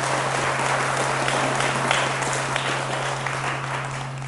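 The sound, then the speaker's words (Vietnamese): A crowd claps steadily in tribute to Vietnamese culture and Buddhism's contribution to it, a dense, sustained wash of applause for several seconds, loud and even throughout, with a low steady hum running underneath and no one speaking. “Thì tôi đề nghị tất cả chúng ta hãy dâng cái một tràng vỗ tay thật lớn về nền văn hóa này.”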